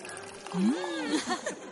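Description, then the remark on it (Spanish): Local sparkling wine (Burbujas Cantosano or Yera Privé) pours into a glass, a short fizzing stream whose ringing tone climbs steadily as the glass fills, followed by a brief bubbly crackle. “Camarero, una botella de espumoso de la tierra.”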